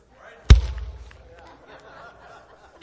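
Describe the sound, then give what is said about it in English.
A slow clap: one loud, sharp hand clap, then a long pause of more than two seconds before a second clap, with a faint murmur of voices in between. “Let me give you the slow clap.”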